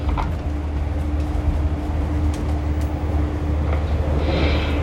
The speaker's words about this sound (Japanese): 列車は中央線を松本方面に向けて走行しております。